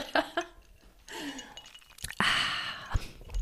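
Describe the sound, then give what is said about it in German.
Ice cubes drop into cocktail glasses for Negroni cocktails with a few sharp clinks and knocks, one followed by a brief rattling wash, after soft breathy noises at the start. “Kann ich einmal hier diese Eiswürfel hier so rein?”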